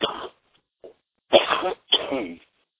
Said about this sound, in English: I'm covering my mouth when I cough on the phone here, so I don't